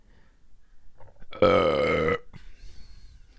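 A single loud, drawn-out burp after drinking bubbly water, lasting under a second, with a low, buzzing, throaty tone that rises abruptly out of quiet background and cuts off just as sharply.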